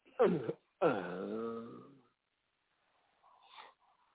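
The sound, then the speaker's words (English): A dog growls and whimpers in two loud bursts, a short one followed by a longer, wavering whine-growl, then a pause and some faint scuffling noise. “Man, I'm scared of the dog, man.”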